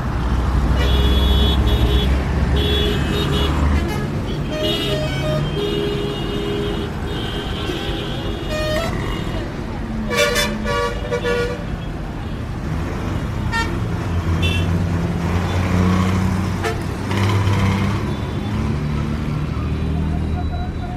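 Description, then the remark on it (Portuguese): Loud, busy street traffic in Yangon with a steady engine roar, repeated car horns honking at various pitches, and indistinct voices of people in the background throughout. “O ar-condicionado contrasta com a temperatura lá fora e assim que se abrem as portas, para além de um bafo que se mostra imponente, o caos típico de uma cidade asiática.”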